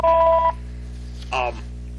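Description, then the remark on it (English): A half-second electronic telephone ring tone sounds once, steady and fairly loud, followed after a pause by a brief burst of someone speaking. “I got a phone call.”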